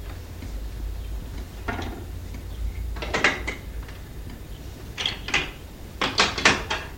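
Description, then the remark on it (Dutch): The door to the swimming pool being opened and then shut, heard as several short clattering, knocking bursts with brief pauses between them over a steady low hum. No one speaks. “Dan zou de deur open doen. Zo. Deur weer dicht.”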